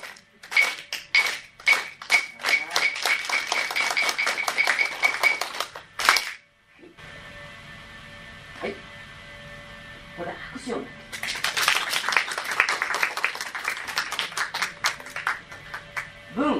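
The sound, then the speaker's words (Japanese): An audience claps in time with sharp strikes of hyoshigi wooden clappers at the start of a kamishibai (paper theatre) storytelling, the beat quickening into a dense flurry, then after a brief lull, a second burst of rapid, overlapping applause. “では表紙儀に合わせて拍手をお願いいたします。だんだん早くなりますのでね、お願いします。”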